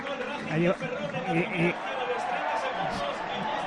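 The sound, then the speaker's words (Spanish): A football stadium crowd gives a sustained ovation for player Óscar Silva as his substitution is announced, a steady broad wash of applause and cheering that continues evenly to the end, with a man's voice talking over the first couple of seconds. “Bueno, se anuncia el cambio, por supuesto, ovación para Óscar Silva, qué mala suerte, este jugador que ya está en temporada.”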